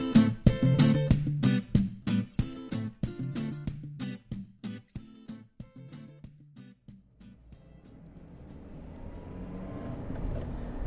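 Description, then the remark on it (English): Rhythmic music plays for several seconds, then fades into a steady low rumble of road noise inside a car driving through Chichester on the south coast of the UK around 11:30 in the morning, with a broad hiss that gradually builds. “It is just about 11:30 in the morning, and as I record this, I am in my car driving through Chichester, which is on the south coast here in the UK, pretty much on the south coast.”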